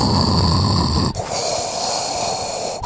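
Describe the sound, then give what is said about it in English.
A person imitates heavy, mechanical-sounding breathing like Darth Vader: one loud, raspy inhale followed by a long, hissing exhale, with no talking. “It's like Darth Vader.”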